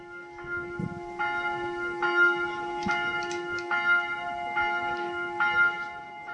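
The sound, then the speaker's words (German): Two newly cast church bells, made by the Perner foundry in Passau, ring for the first time at the church of St. Maurenzen in a steady, repeating pattern, strikes arriving roughly every half second, their bright overlapping tones sustaining over a low background hum, with no voices. “Sie spenden auch die beiden von der Firma Perner in Passau gegossenen Glocken, die am Samstag zum ersten Mal erklangen.”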